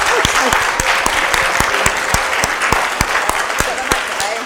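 People at a service applaud steadily, a dense wash of clapping with a few sharper individual claps standing out, sustained and fairly loud throughout.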